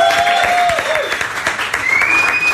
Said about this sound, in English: And also to our wonderful audience who have been with us singing and cheering.